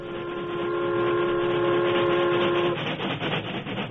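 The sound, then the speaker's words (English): A train horn sounds one long, steady blast for nearly three seconds over the loud, continuous rumble and clatter of a special train rolling past, the rumble carrying on after the horn stops. “Until the train approached the mountainous country separating Cascade from Hunter's Bend, he spent most of his time in conversation with”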